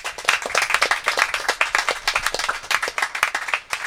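crowd, applause

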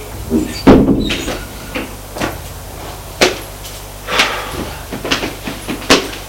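household object, door being opened

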